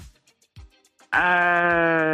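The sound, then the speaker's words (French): A single loud, sustained horn honk with a buzzy, bleating tone, sounded to answer 'true' in a true-or-false quiz game, starts after about a second of near silence and holds steady until the end. “Ah ouais, mais vrai, t'as klaxonné deux fois.”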